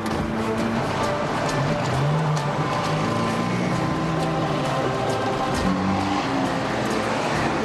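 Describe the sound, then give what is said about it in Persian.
A car engine hums steadily, its low drone shifting in pitch as it revs and picks up speed as the driver presses the gas, with a constant rush of road and wind noise underneath. “گاز بده، هر چی گاز بدی می ماشین میره”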